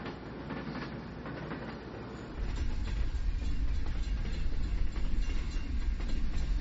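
A heavy runaway freight train rolls downhill on the rails toward Lac Mégantic just before 1 a.m., its low rolling roar swelling louder a couple of seconds in and holding steady with faint rhythmic clatter, no voices.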